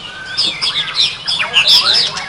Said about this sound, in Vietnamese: Con chim. Có một con chim hay là mấy con? Nhiều con. Quá hay, nghe rất kỹ.